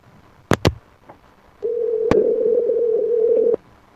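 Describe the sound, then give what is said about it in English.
A couple of sharp clicks on a phone line during an outgoing call back to a caller, placed on air, then one steady, buzzy ringback tone lasting about two seconds before cutting off, heard alone and fairly loud. “More ringing on the air here this morning.”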